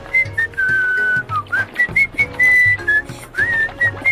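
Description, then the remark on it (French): Someone whistles a light, casual tune, the pure tone gliding between notes in short phrases, with a soft low accompaniment underneath. “Le lendemain, le chimpanzé s'approche de la rivière en sifflotant.”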